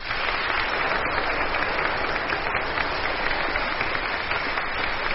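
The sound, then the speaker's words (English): Steady, sustained applause from a sizable audience for the fourth competitor in a Mobile Quest semi-final, a baritone from Baldwin, Victoria, a dense wash of clapping hands at an even level throughout, with no talking over it. “Your applause for”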